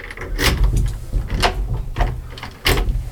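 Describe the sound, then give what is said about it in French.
A chestnut-wood door with two locks is unlocked and opened: a series of sharp metallic clicks and knocks spaced about a second apart over a low, steady rumble, with no voices. “Il y a même deux serrures. Toutes les portes sont en châtaignier.”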